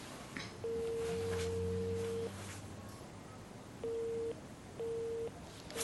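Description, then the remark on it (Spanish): A telephone tone sounds in the earpiece after a woman sitting on a bed redials: a long steady beep, then two short evenly spaced busy-signal beeps, with a faint low hum underneath and no talking. “Apaga el teléfono y queda pensativa, sentada en la cama. Marca de nuevo.”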